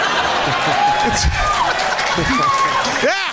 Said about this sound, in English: That round of applause.